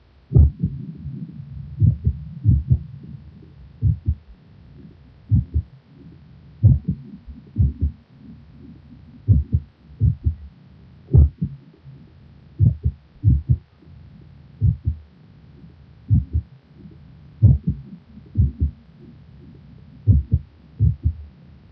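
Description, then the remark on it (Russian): Heart sounds recorded from a female patient with bradysystolic atrial fibrillation: low, thudding beats at an irregular, uneven pace over a steady low hum, with no voices present. “Следующая запись сделана у больной с брадисистолической формой мерцательной аритмии.”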